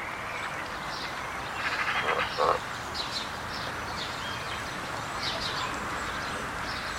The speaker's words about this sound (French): Loi Bernache du Canada, de la famille des Anatidés, est la plus grande des Bernaches, également appelée oie noire. Au Canada, elle est couramment appelée outarde, terme réservé en Europe aux Otididae.